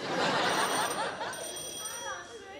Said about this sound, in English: The phone's ringing. What do you expect it to do, yodel?